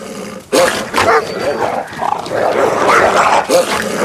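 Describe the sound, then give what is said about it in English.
A pack of wolves growl and snarl while feeding on a kill, their first meal in weeks, in glacial cold: a rough, continuous tangle of low rumbles and sharper yips from several animals, with no talking. “The wolves' teamwork and tactics have paid off. Their first meal in weeks.”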